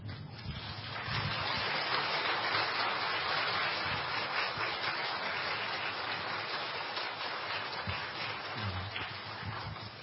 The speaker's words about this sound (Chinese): 我们现在呢站起来特别鼓掌欢迎这些苏孝平博士布道团。